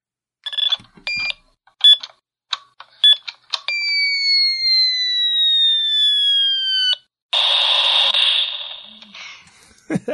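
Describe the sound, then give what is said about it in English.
A 2400 baud modem connecting to the internet: a burst of dialing tones and chirps, then a long steady high-pitched carrier tone gliding slightly downward, followed by a harsh hiss of static-like handshake noise. “So, the Solomon family wrote in, "Hey guys, this week's noisy is a 2400 baud modem connecting to the internet.”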